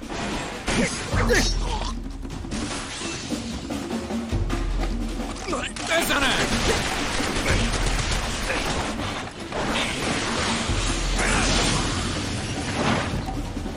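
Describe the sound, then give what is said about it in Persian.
Several loud, booming gunshots go off at irregular intervals amid a dense, noisy scene with rumbling impacts and clattering mechanical sounds, and voices can be heard underneath. “تیراندازی بود از اون بره، صدای چند تا شلیک تیر بود.”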